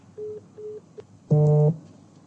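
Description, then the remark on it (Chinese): A WeChat call tone: two short, soft beeps and a tiny blip, then a louder, buzzy electronic tone lasting under half a second, heard alone with no talking. “现在我们应该通话、 啊、 还是微信是吧？”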